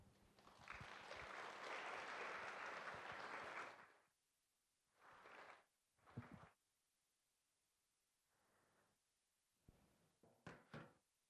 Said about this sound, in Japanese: 感謝と期待を持って拍手を持ってお迎えいたしましょう。